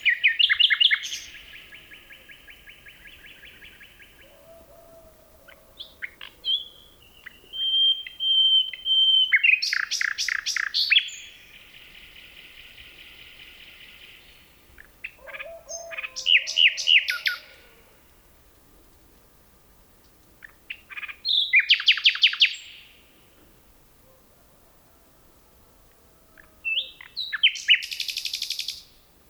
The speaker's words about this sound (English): We leave you this week with a few notes from a bird much sweeter than the magpie. Phil Riddett recorded these two nightingales in a forest near Kent, England.